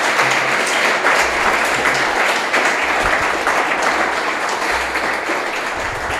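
Steady, dense clapping from a crowd fills the whole stretch, a loud continuous patter of many hands with no voices breaking through, holding at a constant level before easing slightly at the end.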